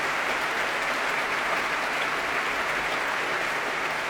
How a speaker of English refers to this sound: And the members of the BBC Symphony Orchestra applauding him as he threads his way past.